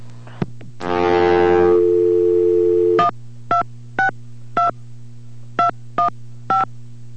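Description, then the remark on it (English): A steady telephone dial tone hums throughout, broken by a brief harsh buzz, then seven crisp touch-tone keypress beeps in an uneven rhythm as a number is dialed. No one speaks. “And we're calling”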